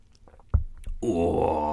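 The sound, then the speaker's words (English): A few soft wet clicks and a sip, then a long, loud, airy slurp of milky, sugary tea that carries on with a voiced, satisfied groan underneath it. “I haven't had a slurp of tea yet.”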